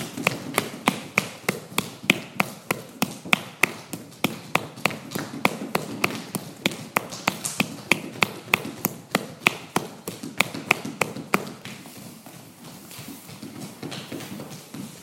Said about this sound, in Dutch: En dan leg je de voetrug op de grond. En klop je de zool van de voet stevig.